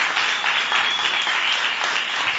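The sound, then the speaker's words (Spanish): Steady, loud applause from an audience, a dense wash of many hands clapping at once with no break across the whole stretch. “Un fuerte aplauso.”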